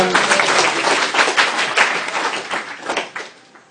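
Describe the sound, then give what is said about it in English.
An audience applauding the tech team, a dense, steady crackle of many hands clapping at once that holds for a few seconds before tapering off at the end. “Big round of applause for the tech team here.”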